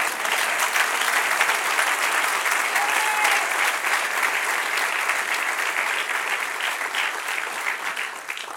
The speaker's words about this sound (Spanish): Dele un aplauso al que reina.